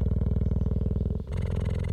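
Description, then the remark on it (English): A female cheetah purrs in a deep, rapid, pulsing rumble that runs steadily, breaks briefly as the breath turns, then continues with a slightly raspier tone, recorded with a microphone lowered vertically to within about 3 yards of her. “And then I slowly started to drop the microphone down vertically, and when it got within about 3 yards of this cheetah, I could see her chest rising and falling, but I could also hear she was purring just the same as any cat.”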